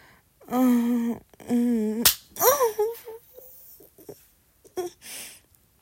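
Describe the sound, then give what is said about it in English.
One sharp hand slap on skin cracks out between drawn-out vocal moans and gasps, followed by a few fainter breathy sounds. “I love it when you slap me.”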